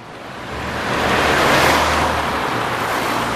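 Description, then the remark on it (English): Steady road traffic of cars and trucks rumbles, a broad wash of tyre noise swelling as vehicles pass, with a low engine drone underneath and no voices. “Cars pumping petrol, trucks burning diesel, and coal firing power stations.”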